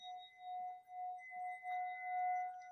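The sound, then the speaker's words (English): A singing bowl, rung like a bell, rings with a steady, mid-pitched tone and shimmering higher overtones, sustaining evenly for the whole moment with a gentle waver in loudness. No one speaks. “One of my favorite sounds to be working with is a singing bowl. And one of the things that I like is you can ring it as a bell.”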